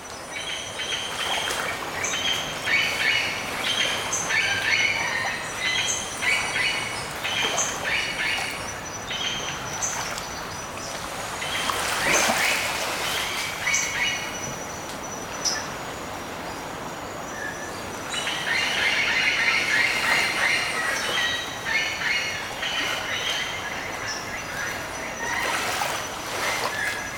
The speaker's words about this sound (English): After the festival, we traveled to Bocas del Toro on the Caribbean coast and recorded this sound of the morning birds.